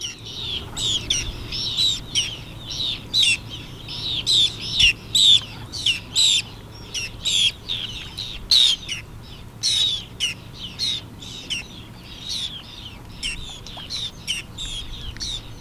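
A busy colony of terns, marsh terns and gulls on lakes in the Danube Delta calls nonstop, harsh, scratchy cries overlapping in rapid bursts over a low, steady background rumble, with no one speaking.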